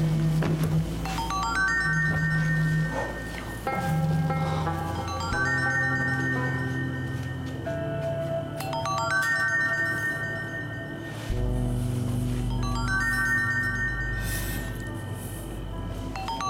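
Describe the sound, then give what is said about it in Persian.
A melodic phone ringtone plays a repeating electronic tune, cycling through its phrase several times at steady volume over a low background hum, with no one speaking. “زنگ میخورد.”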